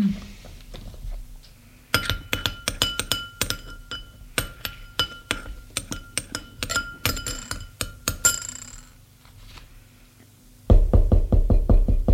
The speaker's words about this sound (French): On a frappé à la porte.